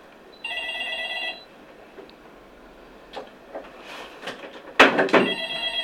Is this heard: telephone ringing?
yes